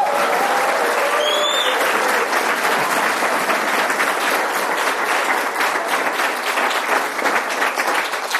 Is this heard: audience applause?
yes